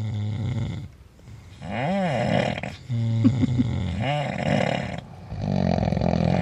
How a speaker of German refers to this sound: Das ist jetzt nicht irgendein Schnarchen, das ist ein Schnarchkonzert.